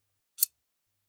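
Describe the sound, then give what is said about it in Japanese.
A single crisp snip of scissors cutting through ribbon after tying a bow around a cake box, short, with a bright, high-pitched shearing edge. No one speaks, and silence surrounds it. “そしたら、ハサミで切って、完成。”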